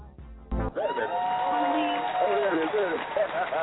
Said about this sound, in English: Uh-oh, is that an applause? Oh, man, I got an applause.